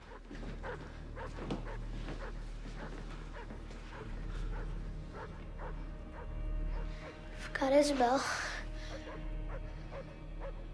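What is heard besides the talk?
distant dog barking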